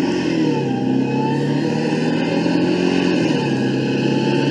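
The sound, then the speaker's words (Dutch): A car engine drones steadily as the vehicle accelerates away along a stretch of road, its pitch climbing slightly while it gathers speed, with no voices over it. “Om af te sluiten, nog een klein stukje optrekken.”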